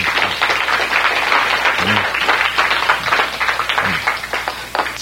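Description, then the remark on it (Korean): A crowd claps steadily for about five seconds, a dense, even wash of many hands with no voices standing out. “박수 한번 쳐야지.”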